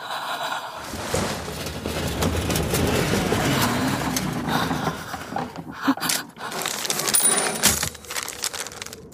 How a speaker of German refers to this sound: kurz bevor du gegangen bist, habe ich dir versprochen, nicht mit deiner Schreibmaschine zu schreiben. Aber nun habe ich mich entschlossen, ein paar Worte zu verfassen.